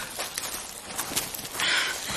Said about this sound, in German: das kommt von da hinten. Ich höre es rascheln. Wer das wohl ist? Mitten hier draußen im Dschungel.